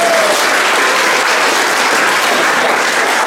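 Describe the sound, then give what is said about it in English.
Steady applause from an audience, a dense wash of many hands clapping at fairly loud, even volume throughout, with no voices standing out. “Oh, round of applause for fear.”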